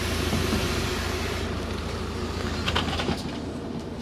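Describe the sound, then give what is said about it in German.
A Postauto bus of the Aargau transport association pulls into the Dorf stop in Arni, Switzerland, its engine rumbling loudly and steadily, with a few brief hissing bursts near the end. No one speaks. “Und hier kommt er auch schon, der Bus. Es ist ein Postauto von der Anwellen, also dem Aargauer Verkehrsverbund.”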